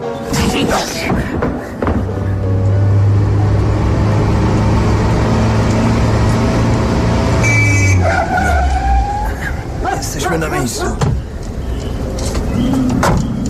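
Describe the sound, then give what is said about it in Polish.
A car drives past with a steady low engine drone and road rumble that swells, holds loudly for several seconds, then fades, with faint bird chirps and other outdoor noise around it. “Mój wóz czeka na dole. No. To nie tak daleko. Samochodem za 20 minut.”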